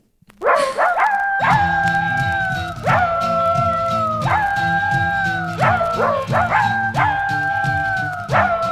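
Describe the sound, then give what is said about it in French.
A person imitates a big dog's barking as a voice exercise, feeling the belly and abdominal muscles relax: a loud string of deep woofs, each stretched into a short howling tail, repeating at a steady pace over a low background hum. “Continuez à essayer d'imiter les gros chiens et de sentir que c'est les abdominaux et le ventre qui se relâchent quand vous aboyez.”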